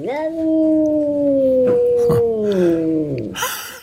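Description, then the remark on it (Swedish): An angry cat lets out a long, drawn-out growling yowl. It holds a steady, moaning pitch that sags slowly for about three seconds before breaking off into a brief noisy burst. “Och ofta är det så att när katter är lite arga på andra katter och de är irriterade på varandra, då kan det komma ut dels ett fräs.”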